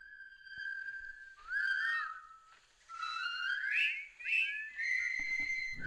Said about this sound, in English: Oh, yeah. Oh, my dad used to whistle that, too. Mm-hmm. What's that from? That's from The Bridge Over the River Kwai.